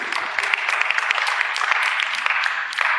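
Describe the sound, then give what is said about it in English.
A crowd applauds Trinity Bible Church with dense, steady clapping, many overlapping claps forming a bright, continuous patter at a fairly even loudness throughout, with no voices heard. “Okay, you can clap on yourself.”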